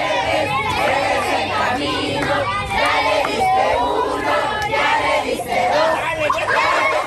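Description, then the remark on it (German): In a courtyard, a crowd of excited voices cheers on blindfolded children trying to hit a hanging seven-pointed star with a wooden stick, singing together without pause, with loud overlapping shouts and melodic chanting blending into one steady, boisterous roar for several seconds. “Alle anderen drumherum feuern an und singen.”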